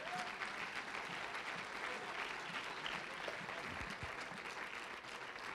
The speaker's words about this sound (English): Why don't you clap your hands into him and bless his name?